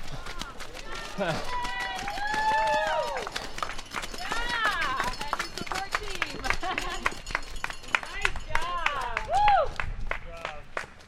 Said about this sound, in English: had just spent the last 9.5 hours running 50 miles, and that 10 seconds of yay, good job, and the clapping, that was the extent of the celebration.